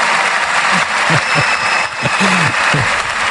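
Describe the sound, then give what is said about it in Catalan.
A loud, sustained ovation from a large crowd at an assembly: dense, steady applause with scattered shouts and cheers rising through it, plus a faint high whistle. “El més significatiu era l'ovació brutal que es va endur.”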